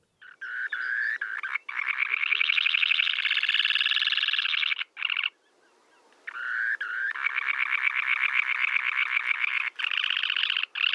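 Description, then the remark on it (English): A semipalmated sandpiper call: a loud, shrill, rapidly pulsing trill that drones on for several seconds, breaks off briefly, then resumes just as steadily. No one speaks. “It's a semi-palmated sandpiper.”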